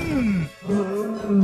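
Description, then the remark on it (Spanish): A lion in Masai Mara, Kenya, roars in two long, low, moaning calls, each sliding downward in pitch, with a short gap between them. The roars are loud and heard without any talking. “¿Le ha respondido el león?”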